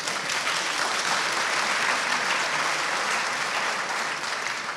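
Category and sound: crowd, sustained audience applause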